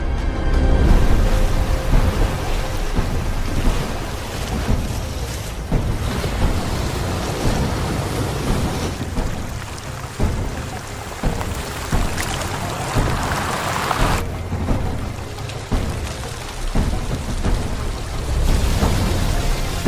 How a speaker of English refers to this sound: It does sometimes rain in the desert. Here in the American West, storms can strike with devastating force. After 10 months of drought, millions of tons of water are dumped on the land in under an hour.